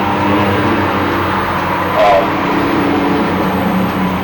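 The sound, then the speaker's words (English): A truck drives by with a steady, heavy low-pitched rumble that swells briefly midway and then settles back into a continuous engine drone. “And that truck get by.”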